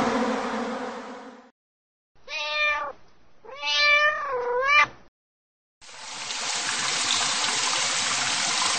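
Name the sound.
cat meowing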